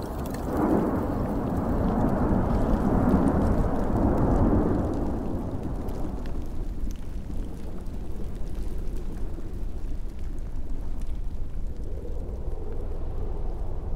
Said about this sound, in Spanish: A ver, ¿cómo suena la lava en movimiento?